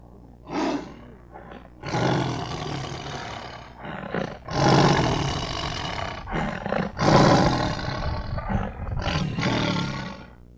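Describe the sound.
A monkey, Tutu, up in a baobab tree with its head at the opening of a large hollow, imitates a lion's roar: a series of loud, raspy, growling bellows rising and falling over several seconds, with short pauses between them and no speech.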